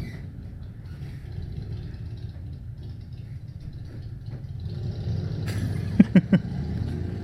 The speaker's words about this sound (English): There's a motorcycle gang outside of my apartment.